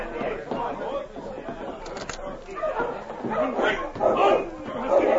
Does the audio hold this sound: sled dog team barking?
yes